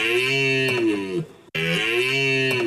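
A goofy, nasal moose call plays twice in a row, each a loud, sustained honking bellow that sags slightly in pitch, separated by a brief gap, with no talking.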